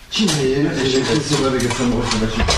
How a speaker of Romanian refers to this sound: Am să spăl eu vasele.